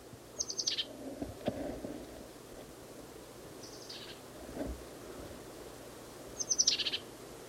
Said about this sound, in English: Flew down. Same bird as last cut.